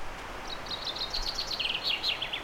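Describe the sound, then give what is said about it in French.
A common chaffinch sings a rapid series of bright, descending notes at the Carrefour de la Malmontagne in the forest of Fontainebleau, its phrase carrying over a soft outdoor hiss with no one speaking. “Et là, j'arrive au carrefour de la Malmontagne. Et là, c'est le pinson des arbres.”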